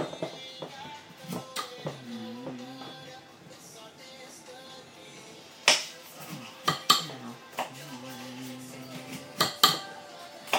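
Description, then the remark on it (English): A knife chops a red pepper on a cutting board in sharp, uneven knocks, clustered mostly in the second half, with soft voices talking quietly in the background. “What are you chopping up now? Pepper.”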